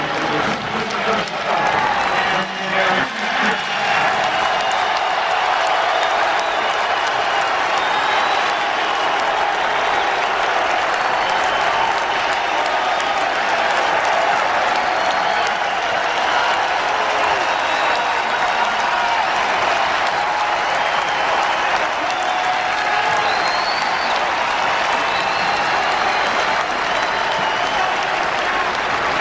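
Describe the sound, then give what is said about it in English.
A large baseball stadium crowd in Chicago applauds and roars for Tim Anderson in a loud, steady wash of clapping and cheering that holds without a break for about half a minute. “And listen to the different reaction.”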